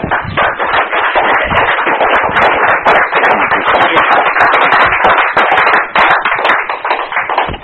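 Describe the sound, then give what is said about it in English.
A standing audience at a church service claps together in a loud, sustained burst of applause for a guest speaker, with many overlapping hand claps forming a dense, steady patter that holds for several seconds without voices. “Stand up now and give Jesus Christ a hand clap for Anthony.”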